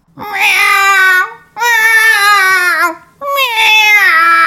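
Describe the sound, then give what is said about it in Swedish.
A woman imitates a yowling cat in heat: three loud, drawn-out wailing cries, each wavering in pitch and separated by short pauses. “Jag kan låta som en katt som löper.”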